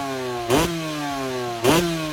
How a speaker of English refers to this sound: Revving it up there.